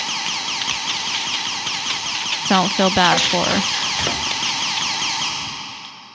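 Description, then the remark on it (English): A loud electronic alarm warbles continuously in rapid repeating sweeps, a shrill sci-fi smoke-alarm tone filling the whole clip, with a man's voice briefly speaking over it midway. “It's like a fucking sci-fi smoke alarm or something, dude. It is an irritating sound.”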